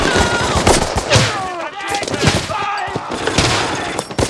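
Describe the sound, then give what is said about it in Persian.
Loud, rapid rifle fire crackles almost nonstop, overlapping bursts and single shots forming a dense battle din, with voices shouting briefly in the middle of the barrage. “زود باشین بزنینشون، درشون شلیک کنین، امونشون ندین.”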